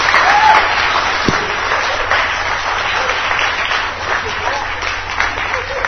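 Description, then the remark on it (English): Steady, dense applause from an audience, many hands clapping together in a continuous bright wash of sound that holds at an even, fairly loud level throughout. “Give him a great big hand clap.”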